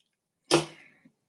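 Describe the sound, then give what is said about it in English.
A single breathy slurp of a drink, taken to ease a dry throat, bursts in and trails off over half a second, followed by a soft, low swallow. No one speaks. “Let me take my sip, my throat can dry.”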